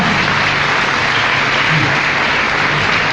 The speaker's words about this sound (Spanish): Un aplauso a la señora.